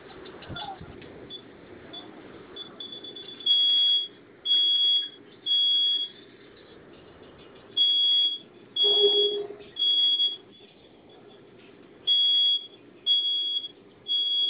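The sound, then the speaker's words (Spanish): A security alarm panel, activated by pressing its two flame buttons at the same time, sounds a loud, shrill high-pitched tone in repeated on-off pulses, roughly one per second, over a low background hum with faint indistinct sounds. “Apóyeme, oprima los dos botones de la flamita al mismo tiempo, se va a activar la alarma.”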